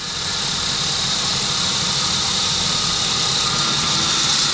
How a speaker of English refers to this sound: Some of the parts from Germany are altered to fit the Dutch designs, and extra holes are drilled.